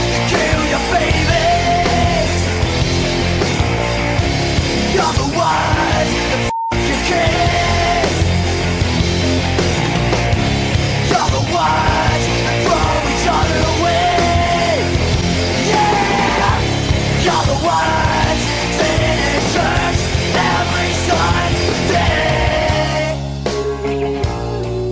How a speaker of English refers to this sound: After that sobering song